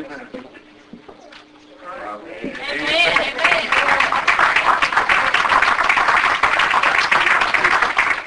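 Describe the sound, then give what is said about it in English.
A church audience bursts into loud, dense hand clapping of praise to God for the sermon after a couple of quieter seconds with a soft sustained keyboard tone. The applause stays steady and full to the end, with voices mixed in. “Give God another hand clap of praise for his awesome word.”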